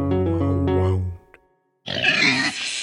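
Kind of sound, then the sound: animal, pig grunting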